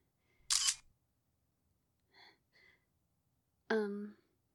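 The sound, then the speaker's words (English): A single crisp phone camera shutter click as a picture is taken with the phone, followed by two soft, brief tones and then a short voiced sigh or murmur. “Okay, my phone's right there. Can you grab it and take a picture?”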